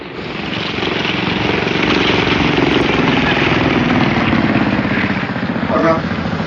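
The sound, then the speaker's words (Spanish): A motorboat engine drones steadily, its rumbling hum growing slightly louder over several seconds, with a brief higher tone breaking through near the end, as the launch comes to a stop beside the boarding ladder of the ship AR-103 in the dark. “La lancha motor se detiene junto a la escalerilla, por la que ascienden seguidamente Calimán y sus compañeros.”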